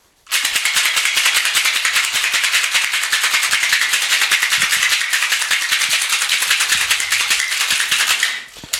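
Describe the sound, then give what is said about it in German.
A cocktail shaker rattles hard and fast for about eight seconds as a cocktail made with bitters and orange bitters is shaken, ice clattering in a rapid, steady rhythm with a bright, loud metallic texture, then stopping abruptly. “Ich schüttel das mal kurz.”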